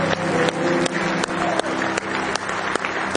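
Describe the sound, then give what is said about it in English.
An audience claps together in sustained, dense applause as a hand clap of praise during a worship service, many hands blending into a loud, steady wash with a few sharper claps standing out at a roughly regular pulse. “Oh, give him a real good hand clap of praise.”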